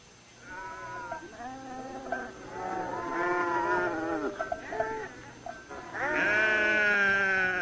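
Goats bleat over and over, several animals calling at once in wavering, overlapping cries that fill the whole stretch, loud, with no talking.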